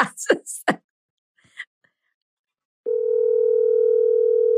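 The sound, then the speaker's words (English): A few brief voice sounds and soft clicks, then a loud, steady electronic ringing tone of an outgoing phone call to a woman begins and holds unbroken to the end. “All right, she's not picking up.”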